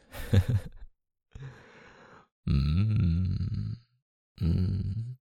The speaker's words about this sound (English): You're breathing so hard.